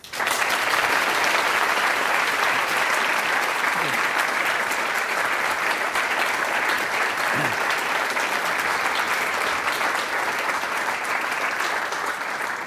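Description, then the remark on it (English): Sustained applause from a large audience welcoming a professor at the start of a mathematics lecture, a dense, steady wash of clapping that stays loud and even for over twelve seconds without any talking over it. “You're supposed to wait till the end for your applause.”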